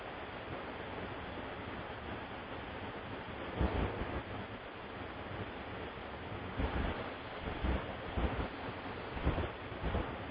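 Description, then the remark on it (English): Steady roar of ocean surf at Ocean Beach in San Diego, with wind buffeting the microphone, broken by a few louder surges as waves break. No voices are present. “we're looking over the ocean, over the city of Ocean Beach”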